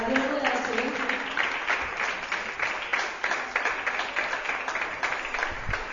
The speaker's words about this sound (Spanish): Un aplausito, ¿no? Que estáis en un silencio.